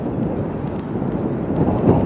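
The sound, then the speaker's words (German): Stormy wind roars and buffets steadily outdoors over the Schalke stadium grounds on a Sunday, a loud, low rumbling rush that swells slightly near the end, with no voices. “Am Sonntag zieht ein kleiner Sturm über das Schalke-Gelände und liefert die perfekte Metapher.”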